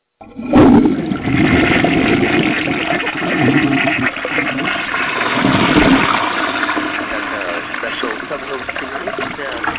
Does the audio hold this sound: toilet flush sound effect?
yes